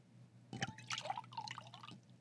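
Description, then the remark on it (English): Crybaby Wine de-alcoholized CBD wine glugs and splashes into a glass for about a second and a half, moderately loud, with bright ringing tones as the glass fills. No voices. “Hold on, let me pour myself a glass.”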